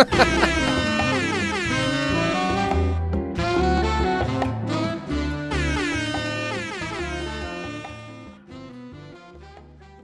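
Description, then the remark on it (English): A slowed, mellow rendition of an air horn blast, its deep stretched tones swelling and sliding in long rich harmonic layers, loud and continuous before gradually fading toward the end. “And heading into the break, you can enjoy this chillax version of the air horn.”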